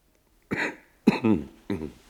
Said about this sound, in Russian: Странно. Почему мне так знаком этот кашель? Почему? Да ведь это она сама так кашляла, когда ей бывало грустно.